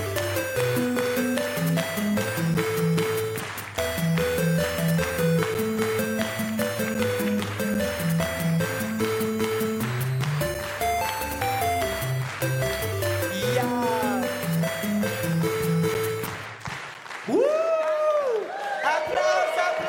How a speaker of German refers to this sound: Und wir werden jetzt unsere Hymne summen. Sie fragen sich jetzt, haben wir eine Hymne?